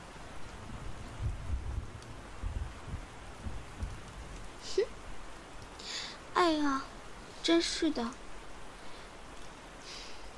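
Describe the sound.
Steady rain hisses throughout as it starts raining on a small tent, a dense wash of drops at moderate level, while a woman briefly speaks over it in an exasperated tone, calling someone to come inside.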